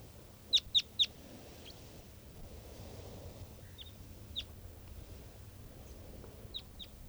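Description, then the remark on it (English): An adult male wild bird calls with three sharp, high-pitched chirps in quick succession, followed by a scattering of fainter, shorter chirps over a steady low rumble of background noise. “And this is another one of the birds. Looks like an adult male here.”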